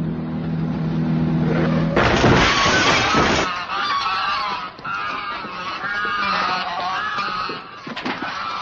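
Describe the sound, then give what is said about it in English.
A flock of ten geese honks loudly, with many overlapping, nasal calls running continuously. A brief burst of noise comes near the start. “10 geese. That's $50. $50? That's $5 a goose.”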